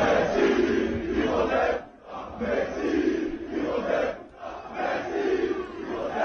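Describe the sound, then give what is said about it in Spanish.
A large crowd of PSG ultras in Paris chants in unison, a loud rhythmic call repeated in waves with brief pauses between phrases, the massed voices rising and falling together, a French accent audible. “Pero así le gritaban, el equivalente a la Monu o a la Ultra... del PSG en París.”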